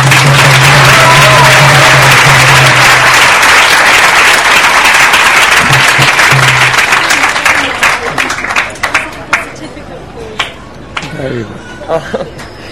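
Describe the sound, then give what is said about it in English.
A crowd bursts into loud, sustained applause to thank a teacher, dense clapping that holds steady before thinning out into scattered individual claps toward the end, with a low hum briefly underneath. “And I would particularly like you to thank your teacher by just joining each one of us in just a round of applause.”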